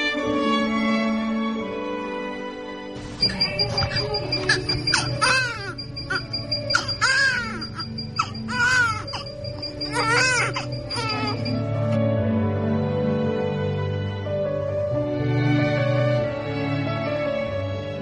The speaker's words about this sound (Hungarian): Ezzel a hanggal indul minden nő számára az anyaság, legyen az saját baba vagy örökbefogadott. Rég volt, amikor az én kisfiam így sírt, de ha ezt a hangot hallom, ma is megáll egy pillanatra az idő körülöttem, és már is újra ott tartom őt a karomban.